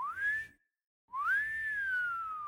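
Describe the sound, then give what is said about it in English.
A long, slow wolf whistle: a short rising note, a brief pause, then a longer swoop up and gently down, clear with no one speaking. “But even so, Jacqueline was startled when, one cool day in February, a long, slow wolf whistle pierced the air.”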